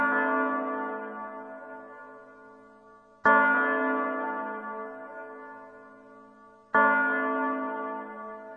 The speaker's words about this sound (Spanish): A medianoche, cuando el reloj acaba de dar las 12 campanadas